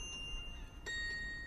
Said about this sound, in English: Church bells chime through cobblestone squares.